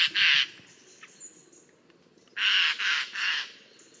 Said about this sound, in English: Or even Eurasian jays, whose plumage might look nice, but whose song, well...